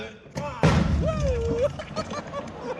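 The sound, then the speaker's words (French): A pyrotechnic charge placed in a vegetable garden goes off during a show, staged to get rid of moles. A sudden loud boom bursts out and then rumbles on briefly, with a voice calling out over the fading noise and other people talking. “C'est-à-dire que pendant le spectacle, il y a une explosion de jardin pour éliminer les taupes.”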